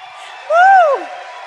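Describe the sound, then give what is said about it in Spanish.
A crowd cheers and applauds for performers just back from Australia as one voice lets out a short rising-and-falling whoop, lasting about half a second, over a steady wash of noisy applause that continues after it fades. “un aplauso para nuestros diamantes que acabaron de venir de Australia.”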